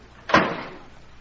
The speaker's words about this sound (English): And close the door. We won't listen, never mind. Close the door, please.